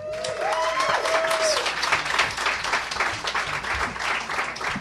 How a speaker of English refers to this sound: And big round of applause here.